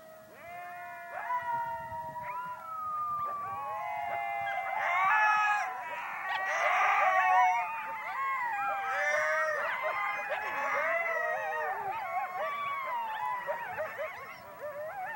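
A chorus of coyotes, among 200 housed in pairs in outdoor research pens about the size of a tennis court, howls and yips together after a researcher howls first, overlapping wavering high-pitched wails and warbling cries rising and falling continuously, loud, with no talking.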